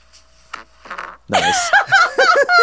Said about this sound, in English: Do the fart sound effect. Do the fart sound effect. That locks it in.